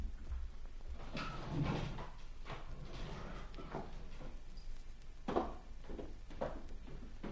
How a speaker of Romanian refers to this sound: Ușa. Ușa camerei lui. Da, și? Mi-e frică. Du-te tu și te uită. Crapă puțin ușa.